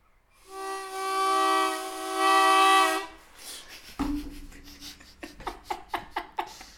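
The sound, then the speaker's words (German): A voice mimics a train: a long, steady horn-like hoot lasting a few seconds, followed by a rapid rhythmic chugging of short puffs that speeds along like wheels on rails. “Kann einen Zug nachmachen, oder?”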